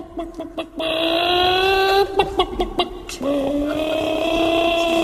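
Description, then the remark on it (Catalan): A man's voice imitates a hen, drawn-out nasal clucking tones broken by a burst of short choppy clucks, then another long squawk, loud. “Faci-li allò que fa amb la gallina, que ho fa...”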